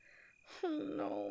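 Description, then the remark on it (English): A trainer breaks into crying: a sharp breathy intake, then a loud, sustained wailing sob that starts high, bends downward and keeps going unsteadily, with no words spoken. “You went and made the only interesting-looking trainer cry.”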